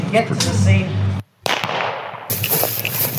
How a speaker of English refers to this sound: You do not go out there and get shot. So the first sound is the bullet just missing you.